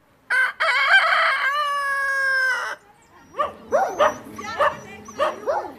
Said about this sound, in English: Roosters and stray dogs vie for territory on the streets of Vulindlela, a poor community near Pietermaritzburg.